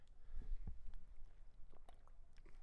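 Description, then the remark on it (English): Someone takes a quiet sip of water, with soft wet mouth noises, a gulp or two and faint lip clicks, and no talking. “I'm going to take a little sip of water here because I've been working hard.”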